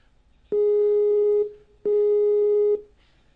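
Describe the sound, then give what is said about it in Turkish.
A telephone ringback tone sounds twice during a call placed live on air, two steady, loud, roughly one-second electronic tones separated by a short pause, with no talking over them. “Telefon da çalıyor ama.”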